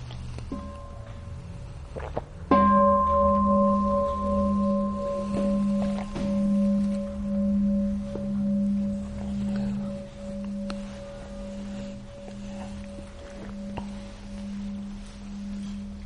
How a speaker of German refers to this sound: Ja, vielleicht hören wir da vorher noch mal eine Glocke.